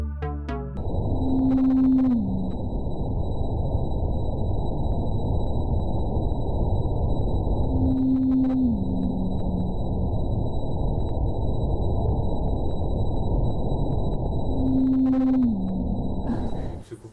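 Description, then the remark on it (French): An Antarctic blue whale call, played sped up 10 times, repeats three times at steady intervals, each a sustained low tone that slides downward, over constant underwater hiss with a faint high whine. “Là, c'est vraiment la signature vocale des baleines bleues antarctiques. Donc, elle répète ce signal sans arrêt, toujours le même.”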